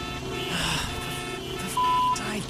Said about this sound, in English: It's traffic. You know what that sound means, Sydney. Come on. It's time to play Highway Hypotheticals.